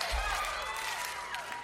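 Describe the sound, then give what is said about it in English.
A crowd at the Wild Horse claps along on cue in a dense wash of hand claps, mixed with cheering and a few rising and falling whistle-like voices, loud throughout the short burst. “We're gonna clap our hands one time.”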